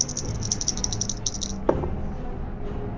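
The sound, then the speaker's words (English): Dice, including a sand die rolled by accident instead of a round one, clatter rapidly in a shaken hand for over a second, a bright, rhythmic clicking, then drop with a single sharp knock and settle quietly, landing a 20. No one speaks. “I rolled my sand dice instead of my round one by accident and it landed me a 20.”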